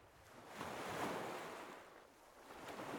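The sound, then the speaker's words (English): Broad, hissing wash of surf swells and recedes, building to a crest around the middle and rising again at the end, a steady roar of waves breaking on a shore with no voices. “Waves like those that wash onto the beaches at Idra.”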